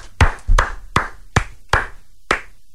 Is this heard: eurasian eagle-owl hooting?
no